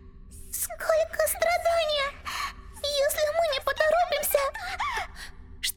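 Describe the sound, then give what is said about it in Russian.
A high, wavering voice of a kinsman cries out in broken, pleading bursts with shaky pitch, calling for help through sobs, set against a low steady hum. “Кто-то просит о помощи. И плачет.”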